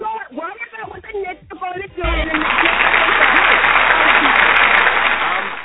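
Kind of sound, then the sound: crowd, applause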